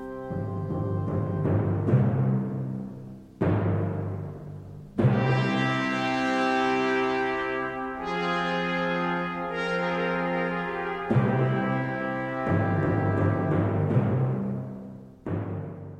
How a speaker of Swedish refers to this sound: Och här hör man liksom lämningar från... Från luta och sånt. Här är marsch och canzona för Queen Mary's Funeral.